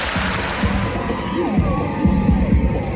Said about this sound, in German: Die Abstimmung wurde am Trocadéro in Paris live übertragen. Jubel unter den Anwesenden.